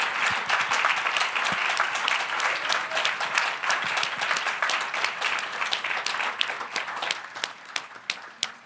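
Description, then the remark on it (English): A crowd applauds steadily, dense overlapping claps filling the space at a fairly loud level, thinning slightly toward the end into more distinct individual claps. “Come on, keep clapping.”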